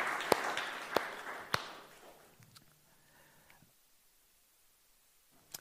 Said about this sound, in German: Ja, genau, gebt uns einen Applaus. Sehr gut.